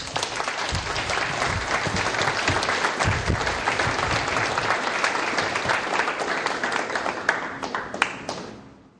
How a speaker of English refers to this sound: Have another round of applause